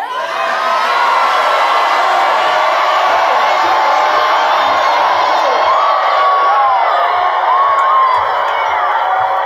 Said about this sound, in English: The Lord said to say it like this. If you see a green light, I want you to really shout.